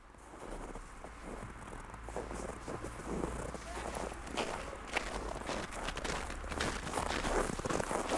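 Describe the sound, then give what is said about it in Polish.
A man's quick, steady footsteps pound along an empty residential street in the evening for several seconds, each step a sharp thud over a low rumble of wind and traffic. “Czemu pan biegnie?”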